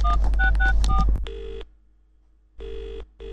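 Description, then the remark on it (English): A rapid string of electronic keypad beeps as a phone number is dialed from an office to call someone at his office, followed by the steady buzz of a ringing tone repeating on the line, with no one talking. “I'll call him at his office from my office.”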